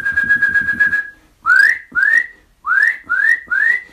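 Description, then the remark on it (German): Loud, clear whistles of a Eurasian nuthatch: first a rapid trilling run of notes, then five separate rising whistled calls in a steady rhythm, strong with no talking. “Mit ihren lauten Pfeiftönen sind die so auffällig und über so weite, große Distanzen zu hören.”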